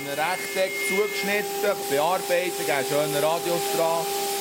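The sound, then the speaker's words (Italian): A steady mechanical whine from workshop machinery, a circular saw, planer and sander cutting plexiglass at the Emoplastica workshop, where five employees take turns at the machines, hums continuously beneath a voice speaking over it. “La emoplastica assomiglia in tutto e per tutto a una falegnameria di paese, 5 impiegati che si alternano alla sega circolare, alla piallatrice, alla levigatrice.”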